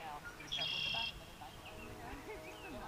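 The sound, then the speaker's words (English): Birds chirp outdoors at a lavender farm in rural Missouri, amid fields of lavender. A bright, high trill stands out for about half a second near the start, then fainter calls follow over a soft, steady ambient background. “Surrounded by fields of lavender with bees buzzing and birds chirping”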